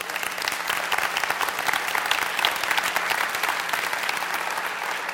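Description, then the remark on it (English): A church audience breaks into sustained applause at the announcement of raising $3 million to eradicate the church debt within 3 years, a dense, steady wash of many hands clapping at an even loudness for several seconds with no voices standing out. “You know, honestly, I didn't know that I'd get applause for that.”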